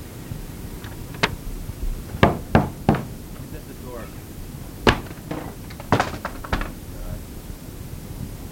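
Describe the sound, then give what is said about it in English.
Sharp knocks on a door come in irregular clusters of two and three raps, fairly loud, with a low murmur of background noise between them. “Door.”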